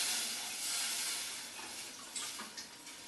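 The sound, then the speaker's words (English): Water pours into a hot pot of spiced meat with chopped onion and fresh coriander, just enough to cover the meat, with a steady, bright hiss and sizzle, continuous for a few seconds, with a few brief splashy spurts near the end. No one speaks. “Now as you can see, I've added just enough water to actually cover the meat, and I'm going to bring this now to the boil.”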